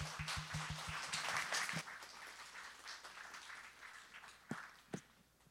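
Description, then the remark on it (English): A church audience claps to welcome a preacher in a dense, crackling burst that thins out after about two seconds, trailing off into scattered claps, with two sharper individual claps near the end. “So let's just give him a big round of applause.”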